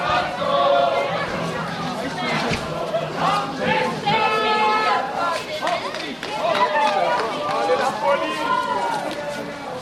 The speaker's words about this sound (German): hören noch vor der Drogerie dem Körli zu, wo noch einmal das Vogulisi anstimmt